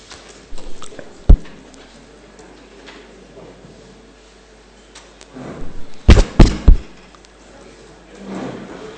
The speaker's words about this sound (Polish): Może od tego pukania właśnie.